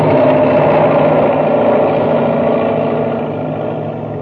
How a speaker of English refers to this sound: And now, as Buzz tries to pull Happy free, the enormous driller roars down upon them.